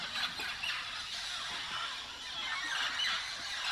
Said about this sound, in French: Le jour n'est pas encore levé que la forêt est saturée de cris, de souffles, de battements d'ailes. Derrière moi, ces milliers de perruches dont je devine les silhouettes au bord des branches, feuillages éphémères qui s'éparpillent au moindre bruit.